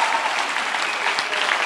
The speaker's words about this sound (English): Give them a clap, will you?